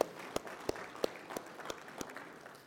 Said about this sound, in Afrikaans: Kom ons gee 'n lekker hande klap.